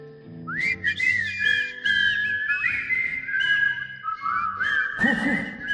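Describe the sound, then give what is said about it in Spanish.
A person whistles a lively melody, the bright tone gliding and bending between notes for several seconds, with a quieter hum of background sound underneath and no speech. “Y yo ya ni me preocupo del taller. Voy a Feubert silbando.”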